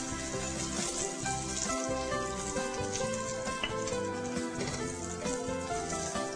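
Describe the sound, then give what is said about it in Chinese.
Shanghai-style pan-fried meat buns (shengjian bao) sizzle steadily in hot oil as the pan dries out and they finish cooking, a dense crackling hiss that fills the whole stretch, fairly loud with occasional sharper pops and no voices. “啊，好，整个都干了，而且你会发现有一点油，哎，这个时候呢，你就可以起锅了，而且香味都出来了。”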